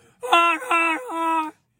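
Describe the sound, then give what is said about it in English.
Geese honk in flight: three drawn-out, nasal calls in quick succession, each with a reedy, buzzing tone and a slight dip in pitch, loud and clear with no talking. “They're honking in the air.”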